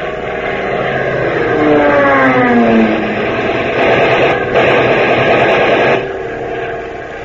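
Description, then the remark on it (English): A Japanese fighter plane's engine roars in a dive, its droning pitch sliding steadily downward, then a harsh, dense rattle of strafing machine-gun fire bursts over the roar for a couple of seconds before fading. “Wow, that buzzer thought he was machine-gunning us”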